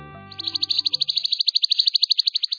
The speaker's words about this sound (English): Few songbirds are more familiar across North America than the chipping sparrow. Petite and rufous-capped, chipping sparrows breed over much of the continent.